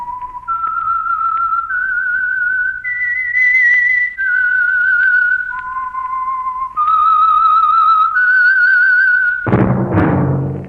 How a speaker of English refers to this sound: That whistle is your invitation to listen to the Household Finance program, The Whistler.